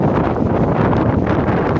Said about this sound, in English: Wowzers, we got damaging winds. I just heard metal getting torn off a roof or something over there.